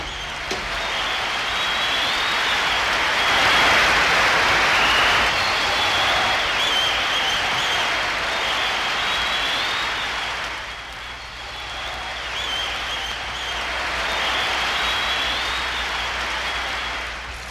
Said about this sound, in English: The crowd of scientists and technicians are going wild. What a space ovation!